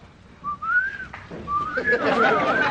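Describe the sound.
Someone whistles an imitation of an English cuckoo's call: clear tonal notes that glide up and down, with a rougher, busier sound building up behind the later notes.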